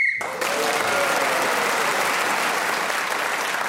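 A short, shrill whistle blast marking the end of time in a game sounds at the very start, immediately swallowed by loud, sustained applause from an audience that carries on steadily to the end.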